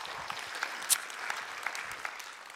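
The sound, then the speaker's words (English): Audience applause at Community Church in Fond du Lac, Wisconsin, welcoming a guest speaker: a dense steady patter of many hands clapping at moderate volume, with a few sharper claps standing out; no voices over it. “Hold your applause. Now, Community Church, please give a warm welcome”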